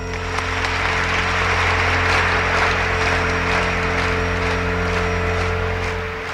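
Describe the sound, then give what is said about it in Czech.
A crowd gives long applause after the final words of a political speech, clapping steadily and loudly in a dense, unbroken wash that holds for several seconds over a faint low hum. No voices are heard. “Za posledními slovy zaznívá dlouhý potlesk.”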